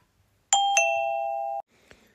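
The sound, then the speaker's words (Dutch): A doorbell at the parents' home rings in the early morning of Christmas Day with two quick electronic tones, the second holding steady for about a second before cutting off, followed by a faint click. No one speaks. “In de vroege ochtend gaat bij de ouders van Chantal de deurbel.”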